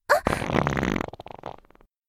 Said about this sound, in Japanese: やだ、音が、臭いおなら、出ちゃう。